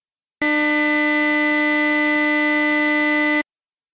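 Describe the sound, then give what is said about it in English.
A synthesized tone plays steadily for about three seconds: a buzzy, low sawtooth wave with a pure, high sine whistle layered on top. It starts and stops abruptly, with no talking. “And that gives us a 300 Hz sawtooth wave, which I will play now. Just for fun, let's throw in a 2,000 Hz sine wave turbocharger.”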